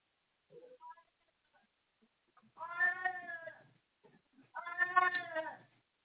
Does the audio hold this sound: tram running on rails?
no